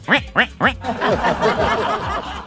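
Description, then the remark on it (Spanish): A voice imitates a duck, three sharp nasal quacks in quick succession, then a rapid, overlapping string of wavering quacking sounds, loud. “Y a propósito de pato”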